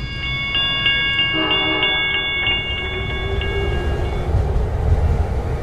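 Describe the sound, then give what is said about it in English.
A train rolls along the rails with a steady, heavy rumble, while high, ringing metallic tones pulse over it for a few seconds before fading. No one speaks. “They say the train is such a romantic way to travel.”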